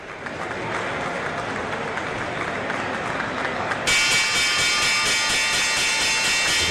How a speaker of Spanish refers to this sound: Inconfundible, además ya la retransmite la CNN cada mañana, es la campana de apertura de la bolsa de Wall Street, Nueva York.